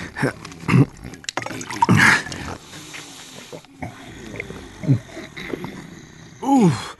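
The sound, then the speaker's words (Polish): Water is poured and gulped down, a few short splashy bursts and swallowing sounds with throaty, grunting breaths between them. “Może tylko jeszcze odrobina wody.”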